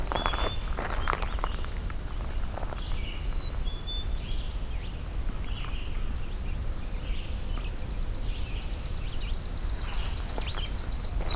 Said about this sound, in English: Okay, so this is sounding like chipping sparrow.